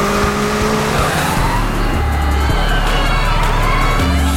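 A car engine roars loudly, its pitch shifting abruptly as Lindy's car, chased by Vickers, swerves through a sharp turn, with tires squealing and skidding against the road.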